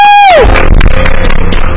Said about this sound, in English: Let's all give him a round of applause.